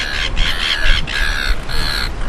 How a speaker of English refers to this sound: It's the number one tourism experience in Narooma. You know, when you go there in bird nesting season, you walk from the wharf up the path to the lighthouse. You wouldn't want to go there if you don't like birds because it is loud.